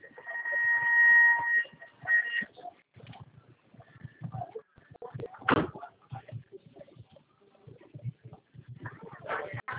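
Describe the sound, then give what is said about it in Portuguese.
A steady warning tone sounds at the start, followed by the mechanical thump and rattle of train doors sliding shut amid the rumble and clatter of a moving carriage. “Atenção para o fechamento das portas.”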